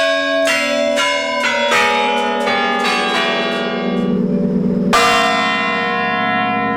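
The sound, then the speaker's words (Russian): The mechanical Kremlin tower clock, about 300 years old, chimes a quick descending run of bell notes, then its large bell strikes once, loud and directly overhead, its deep ringing tone sustaining to the end. “Это большой колокол.”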